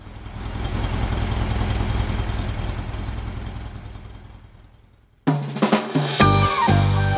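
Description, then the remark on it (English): An old Volkswagen Kombi van engine idles in Rio de Janeiro with a throbbing, steady low rumble for about five seconds, fading down before music abruptly starts. “Ah, that distinctive engine sound did make me feel rather nostalgic, and I'd like to play some music in honour of the Volkswagen.”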